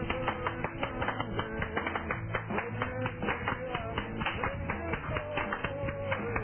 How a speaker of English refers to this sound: Turn this up. It does have the clapping effect.